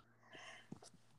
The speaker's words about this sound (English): Oh, apologies. COVID cough. Oops.